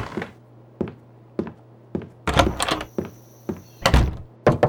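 Steady, evenly spaced knocks by Colonel Garneau on the unlocked wooden door of a house, each a sharp thud, with a louder rattling flurry of blows midway before the single knocks resume. No voices.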